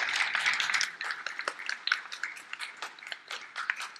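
A round of applause from a crowd for a woman: a dense wash of clapping at first that thins into scattered individual claps toward the end, fairly soft overall, with no one speaking.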